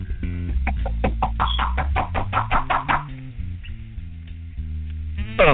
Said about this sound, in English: see who it is right there at the door. They're knocking at this time right now.